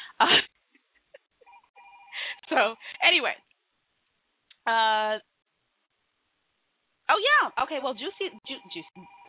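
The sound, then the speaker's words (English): A telephone rings once with a short, buzzy electronic tone and goes unanswered. The ring is clear and fairly loud, sitting in a pause between bursts of people talking over a narrow, phone-like line. “I'm not answering that phone because I have a sneaky suspicion that somebody from Microsoft.”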